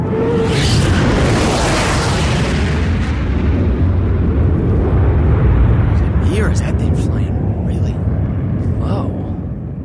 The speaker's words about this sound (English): What the fuck's that? Holy shit, it's a fighter plane. Guys, look! What the hell's it doing all the way out here?